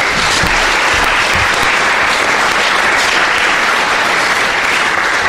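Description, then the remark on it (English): Sustained audience applause for four contributors after a report presentation, a dense, steady wash of many hands clapping at an even loudness throughout, with no voices standing out. “Now, I'd like to have a round of applause first for all four contributors.”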